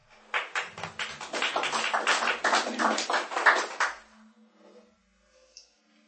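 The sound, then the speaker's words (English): A burst of audience applause at a public meeting, following a speaker's objection to a project, with many hands clapping in a dense, steady patter for about three and a half seconds before it quickly dies away into near silence. “We could hold the applause, please.”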